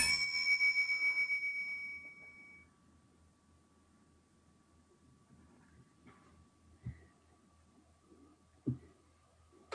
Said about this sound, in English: 40 seconds with a chime starting now.